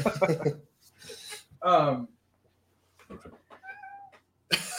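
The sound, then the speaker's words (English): A cat meows frantically and repeatedly, with loud drawn-out yowls followed by shorter, thinner cries in an agitated, uneven rhythm. “Sorry, my cat is just absolutely freaking out.”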